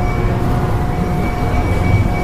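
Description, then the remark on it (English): The indoor Ferris wheel at a Toys R Us store running and beeping, with a steady, loud mechanical rumble and sustained high electronic tones held over it throughout, and no talking. “It's beeping and running and everything.”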